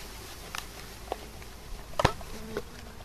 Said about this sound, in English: He's attempting to move 10,000 bees out of a wooden box and into a nearby hive.